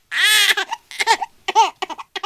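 A baby lets out a loud, high-pitched scream, then breaks into a run of short babbling and squealing bursts with brief pauses between them.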